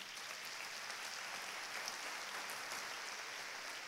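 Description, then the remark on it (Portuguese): An audience applauds together, a dense, steady wash of many hands clapping at an even level for several seconds, with a few sharper individual claps popping out from the crowd. “Dê a melhor salva de palmas.”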